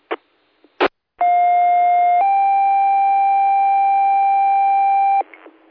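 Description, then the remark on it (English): Two short clicks give way to a loud, steady two-tone fire and ambulance pager test alert: a one-second tone, then a slightly higher sustained tone held for about three seconds, cutting off abruptly into faint noise. “This is a test to find the fire and find the ambulance pagers. This is only a test, end of test 1755.”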